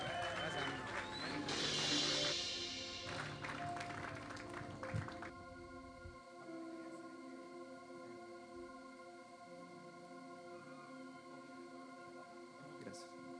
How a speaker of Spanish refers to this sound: Vamos, fuerte ese aplauso.